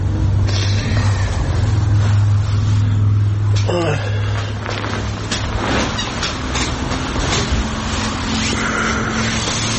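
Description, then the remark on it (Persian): A steady, loud drone of road noise inside a moving car, with a deep engine hum and rumbling tires running throughout, and voices talking over it. “مجبور شدم ماشین بیارم.”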